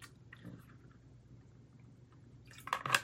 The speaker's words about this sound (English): Well, why don't we go ahead, and I'm going to have some water, and we'll pray, and we'll get into God's word.